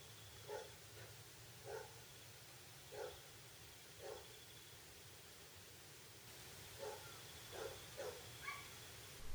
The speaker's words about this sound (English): It's getting closer. It's still on about those stray dogs?